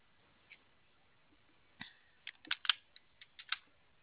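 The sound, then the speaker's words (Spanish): Someone enters the code 4646 on a keypad, a series of about nine short plastic clicks in quick, uneven succession after a single early press, fairly quiet, with no talking. “Vale, ¿te prende teclado? Sí. A ver, mete la clave 4646.”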